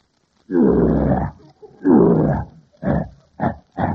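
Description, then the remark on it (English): A human voice imitates a lion's roar: two long, rough, growling roars followed by three shorter, choppy bursts, loud, with no other talking. “Now get a load of this lion roar.”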